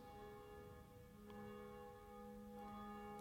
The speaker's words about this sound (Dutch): In de klokkentoren, die zich duidelijk laat horen, wel, daar is één van die klokken, die heet Jacobus, naast Barbara en Blasius, en die horen wij momenteel luiden. Het is hier dan ook 12 uur geworden.